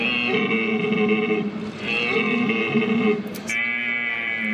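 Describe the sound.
A person imitates a red deer stag's roar at the 2019 German stag-calling championship, held in an exhibition hall in Dortmund: three long, drawn-out, strongly tonal bellows with short breaks between them, loud and steady, with no other voices.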